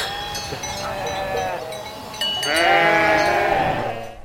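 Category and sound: animal, sheep bleating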